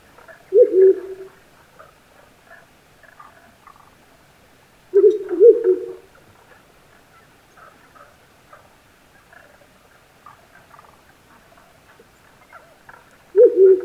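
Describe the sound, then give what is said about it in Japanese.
Male and female owls call back and forth in a highland forest before dawn: deep, resonant hoots come in three loud bursts spaced several seconds apart, with fainter, higher chattering calls scattered between them in a quiet outdoor setting. “夜明け前の森で鳴き合うフクロウのオスとメス。”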